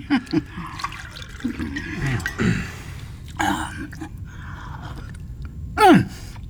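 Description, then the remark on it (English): Claret from Swaledale, 2024, glugs into a glass in a couple of short pouring bursts, with soft table clatter around them and a brief vocal sound near the end. “Shall I help you to the... Oh, no, no, I can pour.”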